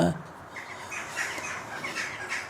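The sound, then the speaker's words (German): Magpies chatter, a string of harsh, rapid calls repeating across the whole moment, with a brief low voice at the very start. “Ja, sind die Vögel da. Das sind Elster, ne?”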